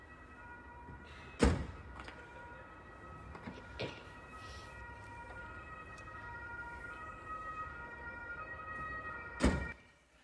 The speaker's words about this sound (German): Kofferraum zu. Das Auto ist fertig gepackt für die Ferien.